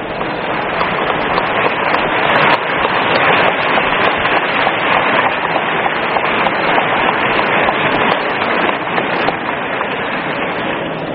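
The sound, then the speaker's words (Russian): A hall audience rises and applauds loudly and without pause as cosmonaut Yuri Gagarin and city and regional party leaders appear on the presidium, thousands of claps blending into a dense, steady roar that holds its strength for over ten seconds, with no voices heard. “Зал встает и долго, бурно аплодирует.”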